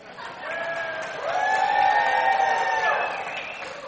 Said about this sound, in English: Three 300 people booed.